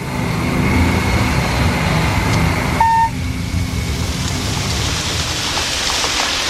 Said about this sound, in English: It was raining when we got to camp.